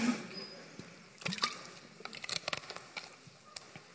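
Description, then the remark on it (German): Quiet sipping of water: a scatter of small wet clicks, slurps and swallows with faint handling noises, irregular and soft, with no talking. “Apropos Fluten und Segen, einen Schluck Wasser.”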